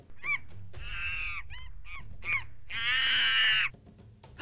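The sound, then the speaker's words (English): A monkey in a jungle calls loudly, a few short yelping bursts followed by two long, harsh, wavering cries, heard alone without any talking. “Did you hear that? That's a monkey.”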